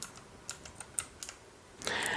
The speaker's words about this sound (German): Gut, Hoppla, eben dann. habe ich meine Tastaturfarbe umgestellt. Jetzt ist es so schön gelb. Egal. Ja. Ja, aus Versehen die falsche Tastaturkombination erwischt.